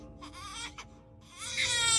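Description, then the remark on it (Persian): A newborn baby girl cries in short, wavering wails, with a brief pause before a louder, sustained cry rises; no talking is heard. “بلامی خوب گوش کن، نباید بذاری گریه کنه.”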